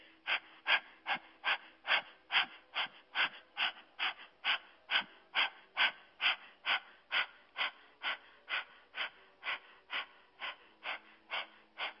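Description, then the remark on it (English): A person pants rapidly through an open mouth with the tongue stuck all the way out, pumping the belly in a 'dog breath' breathing exercise; quick breathy huffs repeat steadily about twice per second, clear, with no talking. “Now stick your tongue all the way out and keep it out as you rapidly breathe in and out through your mouth. This is called dog breath.”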